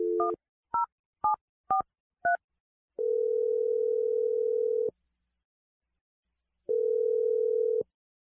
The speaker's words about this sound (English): We're going to dial Adam's phone number, and we'll see what he has to say, okay?